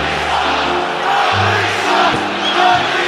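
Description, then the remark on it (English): A large arena crowd jeers Dudley as he leaves the game during a basketball game with the Sixers leading 14-0 in the first quarter, a loud, sustained wall of voices with low, droning boos swelling and dipping across the few seconds, no single speaker standing out. “The crowd with some pleasantries for Dudley on his way out of the game.”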